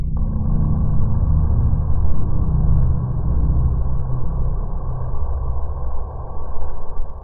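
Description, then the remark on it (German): A deep, rumbling synthesizer sub-bass drones steadily and loudly for several seconds, its low growl layered with a muffled midrange buzz and no voices over it. “Und jetzt noch diesen Sub-Bass, den ich noch dazu gefügt hatte.”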